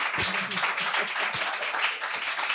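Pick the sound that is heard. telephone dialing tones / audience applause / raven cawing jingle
audience applause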